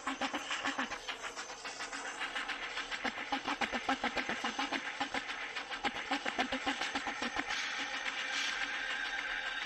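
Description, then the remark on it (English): A train rolls along steadily, its wheels clattering in a quick, regular clickety-clack over a loud, continuous rumble and hiss. No one speaks. “This is all the noise that the trains have recorded in all of their travels all over the world.”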